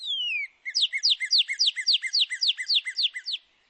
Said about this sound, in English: For example, male and female northern cardinals produce a song with clear whistles.